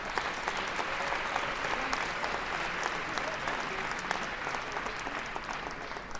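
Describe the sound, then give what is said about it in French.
Sustained applause from a large audience for the festival juries, a dense, steady patter of many hands clapping at even loudness throughout, with no voices standing out. “Alors évidemment, on peut remercier aussi tous nos jurys, parce que je sais que les débats ont été en l'occurrence assez cocasses, assez enflammés, et on peut les applaudir parce qu'ils ont fait, je pense, de bonnes décisions ce soir.”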